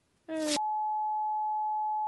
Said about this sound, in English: It's a long beep.